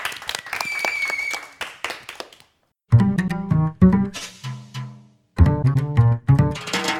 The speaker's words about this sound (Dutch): Dank jullie wel. Nog één groot laatste applaus voor deze vier masteracteurs van vandaag.